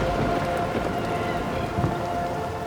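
Steady, dense rain pours down in a constant hiss, with a low rumble of thunder swelling faintly underneath. No voices are present.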